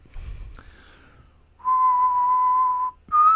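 A clear, close whistled melody from a pop song: a long sustained note held for over a second, a brief break, then the next note begins, after a soft breathy lead-in.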